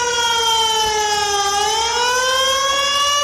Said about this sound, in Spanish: Imagínate despertarte con este sonido a las 2 de la madrugada, más aún si estas sirenas, como es el caso, suenan en San Llorenç, donde una riada acababa con 13 vidas hace justo 3 años.